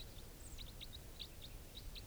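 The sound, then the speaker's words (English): Wild birds calling as they pass over: a quick, irregular series of short, high chirps, fairly faint, above a steady low background rumble, with no one speaking. “And some wild birds are flying over.”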